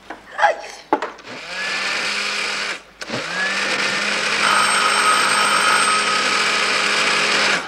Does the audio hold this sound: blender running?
yes